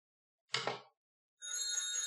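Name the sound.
telephone ringing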